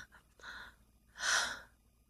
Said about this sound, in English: I'd be a glutton devouring your mouth, feeling your hands on me, pulling me close to feel the rise and fall of my chest as we breathe together. Breathe into each other.